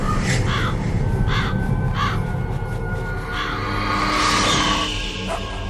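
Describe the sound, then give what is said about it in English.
Ravens caw repeatedly, harsh croaking calls coming every second or so, over a steady low rumbling background with no talking. “The Ravens say you are a true warrior.”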